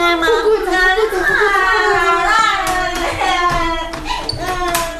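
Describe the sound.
High-pitched children's voices shout and chatter over one another while repeated thumps and bangs ring out, a loud, busy scene of kids playing.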